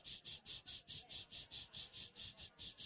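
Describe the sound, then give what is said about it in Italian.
Cicadas sing in a steady pulsing drone, a bright buzzing chorus throbbing about four to five times per second, fairly loud with no voices present. “e questo, con questo suono delle cicale che cantano, vi introduco il prossimo brano che sembra ambientato sulle spiagge,”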